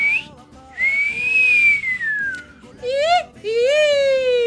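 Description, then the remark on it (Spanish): A person makes clumsy whistle-like sounds, imitating how they whistled as a child before they knew how: a long, high tone gliding slowly downward, then two shorter, lower, voiced squeaks that sound more like a voice imitating whistling, fairly loud. “Yo de chico chiflaba así cuando no sabía chiflar, ¿sabía?”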